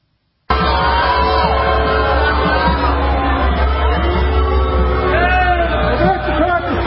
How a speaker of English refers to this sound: want to show you clip 10, which is the Nikki Haley billboard, which says, "We need Hickey." Excuse me, "We need Hickey." "We need Nikki Haley" on it, being booed while driving past a line for the Trump rally in Richmond, Virginia.